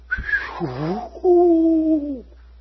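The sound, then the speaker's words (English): A voice mimics eerie whistling wind: a short rising wail, then a wavering moan, and finally a long steady hooting tone that fades out after about two seconds. “Because the wind was actually spooky, whistling.”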